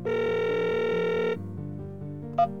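A telephone rings with a steady, bright electronic tone for over a second, then shifts to softer lower tones, ending with a short high blip. No one speaks.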